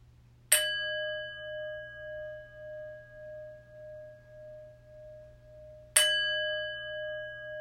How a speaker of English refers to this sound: The chimes will call us to a prayerful meditation.